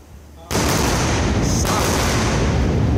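Double sonic booms from the two side boosters of a SpaceX Falcon Heavy rocket returning to Earth at launch pads: a sudden, loud, sharp blast breaks a quiet background, then a dense roaring rumble carries on without pause until the end.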